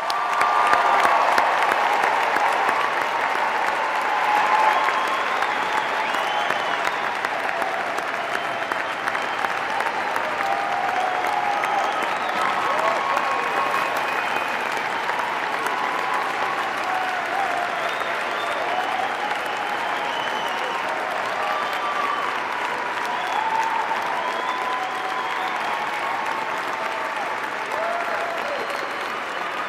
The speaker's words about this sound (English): Congratulations to all of you. And I think at this time we should have a round of applause for the candidates and their families.